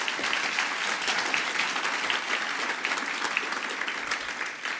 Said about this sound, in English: Let's start out first by thanking Second Amendment Foundation and the Citizens Committee for doing this for us. This is my first one. This is my first GRPC, first of many, hopefully. So let's give them a round of applause and let them know we care.